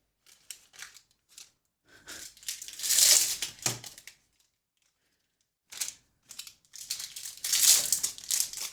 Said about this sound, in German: Vielleicht holst du sie schon mal alle aus der Packung, damit es nicht knistert, wenn du sie gleich währenddessen isst.